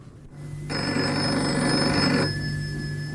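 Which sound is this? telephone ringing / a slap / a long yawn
telephone ringing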